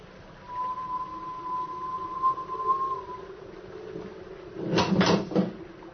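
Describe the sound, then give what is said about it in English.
A distant, steady, thin whistle holds one pitch for a few seconds and fades, followed after a short pause by a loud metallic clang with a rattling second strike, as if a mass of metal had fallen. “A whistle and a clanging sound as if a mass of metal had fallen somewhere.”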